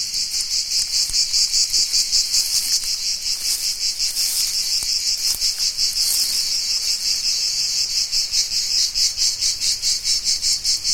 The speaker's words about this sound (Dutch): Oké, cicaden in Zuid-Frankrijk dit, op de achtergrond. Dat laat ik eventjes sudderen op de achtergrond zo.